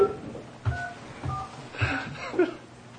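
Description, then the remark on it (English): Touch-tone keypad beeps as a phone number in Connecticut is dialed: about four short dual-pitched tones, spaced roughly half a second apart, over a faint murmur of background noise. “We're calling Connecticut, by the way, those listening in.”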